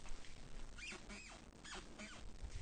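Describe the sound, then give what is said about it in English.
A wooden floorboard in a studio creaks and squeaks several times in a row, about four drawn-out, high-pitched groans spaced roughly half a second apart, faint, with no talking. “and then that's the squeaky floorboard.”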